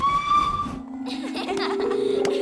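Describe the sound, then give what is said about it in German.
A steam locomotive whistle blows a steady, shrill note for under a second, then gives way to loud, rushing steam hiss over a low, sustained droning tone, prominent throughout. “Mit der Dampflok.”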